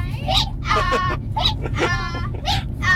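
petting zoo animals bleating

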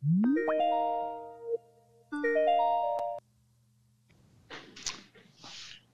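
skype call ringing tone

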